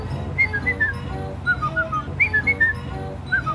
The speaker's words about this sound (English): Do you remember our whistle?